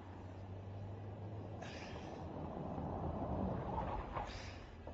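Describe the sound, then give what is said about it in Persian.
A car's low engine rumble steadies and eases off as the vehicle pulls over and parks outside a doctor's office, with a couple of brief hissing bursts over steady road noise and no voices. “نگهدار نگهدار، همینجا پارک کن، مطب همینجاست، نگهدار.”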